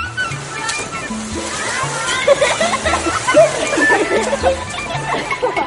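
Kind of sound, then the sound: sound effect, water splashing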